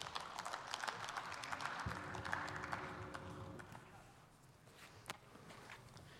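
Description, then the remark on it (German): Scattered applause in a parliament on a Friday afternoon, a steady patter of clapping at moderate loudness that thins out over several seconds, with a low hum underneath and one sharp knock near the end. “Vielen Dank erstmal für den tosenden Applaus am Freitagnachmittag.”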